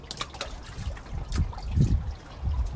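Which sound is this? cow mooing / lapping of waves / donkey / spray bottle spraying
lapping of waves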